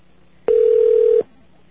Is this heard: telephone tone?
yes